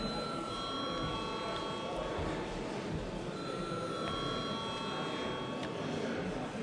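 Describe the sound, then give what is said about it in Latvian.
A bell in a Latvian parliamentary chamber, rung before a vote, rings steadily and continuously for several seconds, a bright, sustained metallic tone with a constant level, while a low murmur of voices carries on underneath. “Paldies, lūdzu zvanu.”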